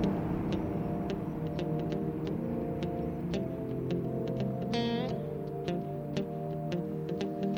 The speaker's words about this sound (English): Bit by bit, all over town, the lights go out, and stars come out over the desert, and the only sound is the humming of the barite mill.